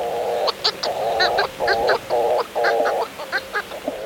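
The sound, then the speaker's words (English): A pair of Hawaiian petrels, crow-sized seabirds, calling at sunset off Maui from the mouth of their nest burrow high in the rim of Haleakala volcano: a rapid run of loud, nasal, honking notes, some drawn out and some clipped, trading back and forth with no voices present. “As the sun sets off Maui, washing the ocean in crimson, a pair of Hawaiian petrels calls.”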